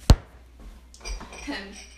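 A sharp clack of a spoon against a container, then soft, uneven scraping as chocolate ice cream is dug out in winter, with light clinks over the last second.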